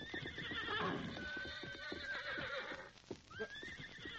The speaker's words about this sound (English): look, there's a horse. Yeah, and coming this way. I don't see anyone in the saddle. Why, there isn't. Somehow that horse has lost its rider.